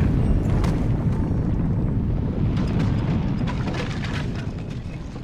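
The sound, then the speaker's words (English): A loud, deep explosion rumble, hitting a cloaked person from the side, roars throughout with crackling debris bursts on top, slowly fading toward the end. No voices are heard. “Another of the cloaked people steps forward and is hit with an explosion from the side.”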